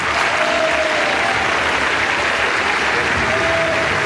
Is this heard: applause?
yes